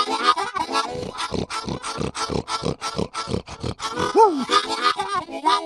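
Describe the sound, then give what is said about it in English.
Pigs grunt and oink in a rapid, continuous series of short, throaty bursts, with a brief rising squeal partway through, loud; the pigs are running around in a pen on a pig farm beside a train track. “And then the pen over on the right-hand side of the track had some pigs running around out there.”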